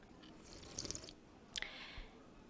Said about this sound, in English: You always take your tea to go and enjoy it on the ride to work. I'm just so happy to see you sit down and take a sip.